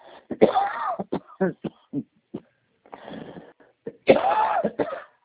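A person with a lingering cough after the flu coughs in repeated harsh bursts, with a strong fit near the start and another near the end and several shorter coughs in between.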